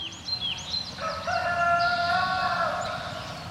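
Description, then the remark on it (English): A hybrid Araucana Rhode Island Red rooster lets out one long, drawn-out crow, loud, after a few brief chirps from smaller birds over steady outdoor background noise. “And that the exotic red jungle fowl is the ancestor of this hybrid Araucana Rhode Island red rooster?”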